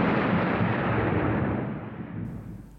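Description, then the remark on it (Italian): A loud, deep rumble of thunder rolls through, broad, then slowly fades over a few seconds. No one speaks. “Maione punteggiava il racconto imitando gli effetti sonori, tuoni, fulmini, le onde alte del mare.”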